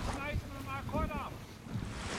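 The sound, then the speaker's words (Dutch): On a dark night at 2 degrees below zero, rough waves and water slosh in a small rubber boat amid loud, steady wind rumble, with brief calling voices of rescue brigade men cutting through the noise as they recover measuring equipment. “Woeste golven en het water klotst in de boot.”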